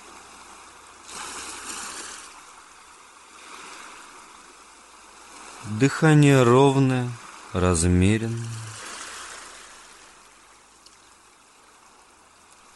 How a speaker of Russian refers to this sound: Шум прибоя погружает вас в приятную дремоту.